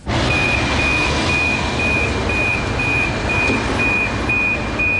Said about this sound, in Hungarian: Záródnak az ajtók a 4-es 6-os vonalán közlekedő egyik kombinó villamoson.